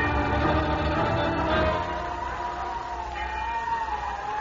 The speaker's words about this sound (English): My lady. She's been ringing the bell.